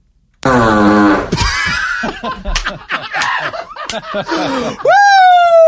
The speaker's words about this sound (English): Oh, it's like you have two distinct style of farts. You have the buzzsaw, like we just heard, and then like the popcorn popper style of fart.